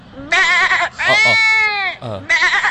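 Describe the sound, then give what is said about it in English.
A man imitates a lamb's bleat with his mouth: three loud, quavering bleats with a wavering, trembling pitch, the middle one longest, with short pauses between and no other talk. “Dis nie 'n small puppy. Dis 'n fucking skapie.”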